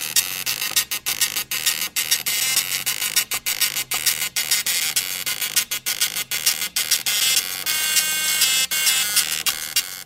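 A pop tune played on an old piece of technology, a dot matrix printer, as harsh, buzzy electronic tones, loud and steady, chopped by short rhythmic gaps between notes, with no voices.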